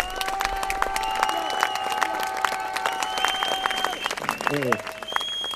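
A crowd applauds a village's municipal team, which hosted a water village, steadily throughout: a dense, continuous patter of clapping with sustained tones and crowd noise mixed in, holding an even, fairly loud level.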